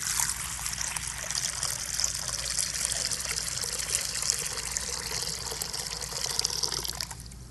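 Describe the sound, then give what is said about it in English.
Water pours steadily from a pitcher into a basin, a continuous splashing trickle that runs for several seconds before tapering off at the end, with no voices. “And then he took a pitcher of water. And he began to fill a basin.”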